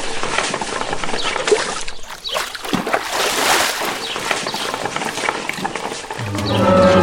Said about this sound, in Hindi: अरे ये क्या, बाल्टी खाली कैसे? फिर से कोशिश करता हूँ। ये क्या हो रहा है, कुएं से भरी बाल्टी निकालता हूँ और बाहर आती खाली।